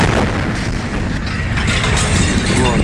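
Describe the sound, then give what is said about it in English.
A meteor's sonic blast in the area around Chelyabinsk, Russia: a loud, sustained rumbling roar with dull, muffled booms rolling through it, steady and heavy for the whole stretch, with no voices. “It lit up the sky in the area around Chelyabinsk and caused a huge sonic blast that smashed windows for miles.”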